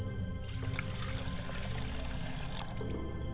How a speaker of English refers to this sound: As I pour libation to the west, I say libation.